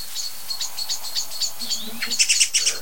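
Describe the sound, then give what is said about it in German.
Many songbirds, blackbirds and song thrushes among them, scold with alarm calls at once in a dense, busy chorus, with repeated high bright notes that grow louder and more crowded toward the end, no voices present. “Richtig laut. Wie ich finde. Und es ist nicht nur eine Amsel oder eine Singdrossel. Es sind jetzt viele, ne?”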